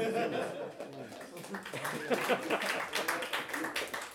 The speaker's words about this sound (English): That didn't deserve applause. I often get that.